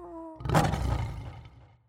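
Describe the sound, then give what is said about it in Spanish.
A voice imitates a lion's roar: a short tone, then one loud, rough, growling roar that swells quickly and fades out over about a second, with no talking. “Y dos, puedo rugir como un león.”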